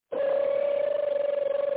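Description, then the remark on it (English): A phone sounds with a steady electronic tone, one unbroken mid-pitched note held for nearly two seconds with a faint rapid pulsing, fairly loud and with no voices. “Nah, man, every time I ask my damn phone, be some weird-ass spam call.”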